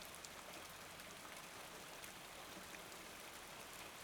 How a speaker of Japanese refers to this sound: 雨音もいい感じに聞こえてくるようになったし、寝たらきっとすっきりするよ。